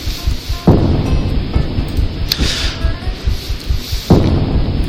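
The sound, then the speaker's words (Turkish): Heavy rain pours steadily while deep thunder rumbles, with sharp cracks breaking through around the first and fourth seconds over the constant wash of rainfall. “bu karamsar ve yağmurlu atmosferi nasıl kıracağımı tam bilmiyorum.”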